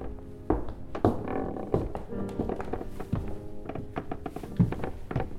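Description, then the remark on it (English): Slow, heavy footsteps thud going up a creaky wooden staircase inside a house, each step landing with a hollow knock at an uneven pace. Faint groaning creaks of old boards sound between the steps, with no talking. “he made his way up the creaky staircase.”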